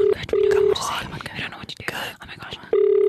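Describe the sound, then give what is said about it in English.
A phone call's steady ringback tone sounds in short bursts while callers wait for someone to answer, breaking off and returning, with soft, hushed voices murmuring in the gaps between the rings. “It's like we're having a conversation while we're waiting for him to answer the phone.”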